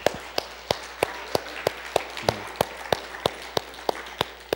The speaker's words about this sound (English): So let's give the Lord a round of applause for the hope that he brings us, right?